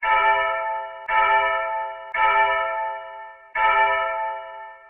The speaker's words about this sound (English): She races down the street to the dark town hall, slips inside, grabs the heavy rope, and starts ringing the village fire bell for all she's worth.